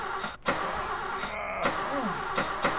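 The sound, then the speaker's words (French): A car engine sputters and turns over, catching with a few sharp bursts before settling into a steady mid-pitched running sound, fairly loud, with no voices. A broken-down car restarting after being pushed, on a train station forecourt in 1956. “Qui finit par redémarrer.”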